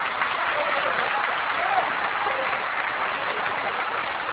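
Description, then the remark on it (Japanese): A room full of people clapping steadily for a correct answer, a dense, even wash of applause that holds at the same fairly loud level for the whole stretch without any voices on top. “今一度、正解の拍手をお願いいたします。”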